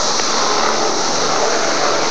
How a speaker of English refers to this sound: Okay, we're hearing a plane go over at the moment.